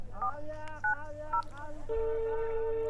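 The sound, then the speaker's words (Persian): A series of short, bright two-tone keypad beeps as a phone number is dialed to call home, followed by a steady ringing tone on the line, heard clear without talking. “خب بسیار عالی، باش که با خانه تلفن کنم.”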